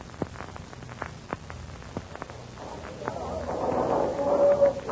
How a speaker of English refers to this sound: shots are heard near the harbor entrance. The pirate fleet is returning. Listen.